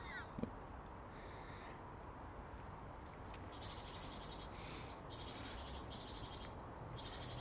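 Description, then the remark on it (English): Birds chirp faintly and intermittently in a garden in the morning, short high tweets scattered over a steady, quiet outdoor background hiss, with no one speaking. “It's good to be here with my garden and birds.”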